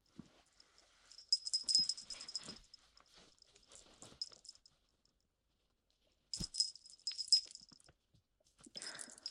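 Metallic jingling of a small tag clinking against a custom-made star collar as it is put on, in two main bursts with quiet handling rustles between and a brief final rattle; no voices.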